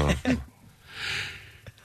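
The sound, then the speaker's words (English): A single sneeze: a short voiced catch of breath followed by a breathy, hissing burst of air, moderately loud, with nobody talking over it. “Bless you.”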